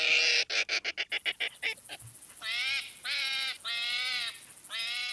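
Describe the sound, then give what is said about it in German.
Hedgehog calls from an animal sound archive: a quick run of sharp, sputtering pulses, then four drawn-out, nasal, purring-like squeals in a steady rhythm, loud and clear with no talking. “ich habe ja mal in einem Tierstimmenarchiv nachgeforscht, wie Igel rufen können.”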